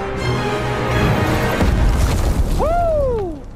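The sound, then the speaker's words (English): A female character's superhero landing impact from a film: a deep, heavy boom over a dense rumbling roar, followed by a bright tone that swoops up and then glides slowly down as the noise fades. “She's going to do a superhero landing.”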